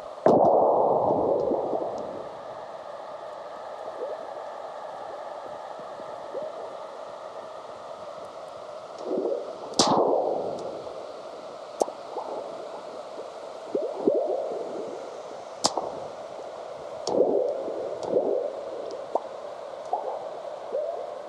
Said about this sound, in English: But seismologist John Bullitt grabbed recordings of the Earth's natural low-frequency vibrations, sped them up, and shifted the pitch so the rumblings, earthquakes, and burps of ocean waves can be heard. They're showcased on his CD, ….